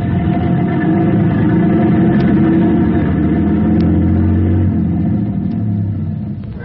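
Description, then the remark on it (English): A truck engine rumbles loudly, revving and shifting pitch steadily for several seconds as the truck backs into a house, before easing off slightly at the end, with no voices. “Block that traffic so I can back into the house.”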